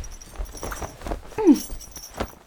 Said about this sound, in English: Clapping me in irons. Is that really necessary?